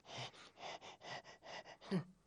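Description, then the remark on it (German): A voice imitates a broken printer groaning and wheezing as it prints a shopping list: a steady run of about eight breathy, rasping puffs, ending in a louder, strained vocal groan. “Und weil der Panda die Liste so dringend braucht, gibt sich der Drucker total viel Mühe und ächzt und schnauft beim Drucken.”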